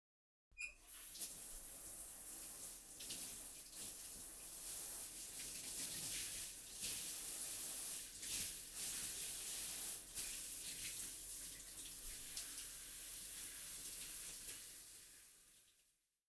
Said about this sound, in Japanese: そろそろ泡、流しますね。私も。